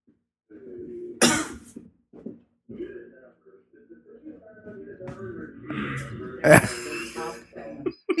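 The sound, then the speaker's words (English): Two sharp, loud coughs close to the microphone of a phone, several seconds apart, with a fainter, wavering, horse-like whinny sounding from farther away in between. “The cougher is much closer to the phone, and the whinnier is much further away.”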